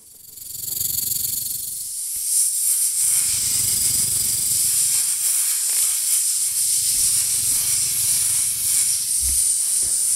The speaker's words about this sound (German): Und was ist das? Das ist eine Schlange. Aha. Bei diesem Sound ist vielleicht der eine oder andere gerade ein bisschen unwohl geworden daheim.